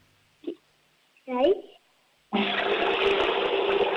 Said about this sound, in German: Na holla, die Waldfee. Die Oma hat eine laute Klospülung.